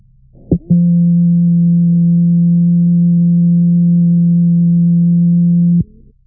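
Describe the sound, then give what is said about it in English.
A low, steady electronic beep from a Braille Lite device, given as a reminder when its voice is turned off, holds at an even pitch and loudness for about five seconds, right after a short click, then cuts off abruptly. No voices are present. “If you should have the Braille light's voice turned off and be working only with the Braille display, you'll hear a beep instead of seeing the word hello as a reminder.”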